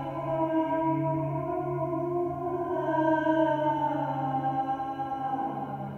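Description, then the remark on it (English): Several people hum together in a sound installation, in a sustained, droning chord, the layered tones slowly shifting in pitch and blending into a steady, resonant wash with no words spoken. “The humming of Analemma Group's Chema Resonance at this year's Ars Electronica.”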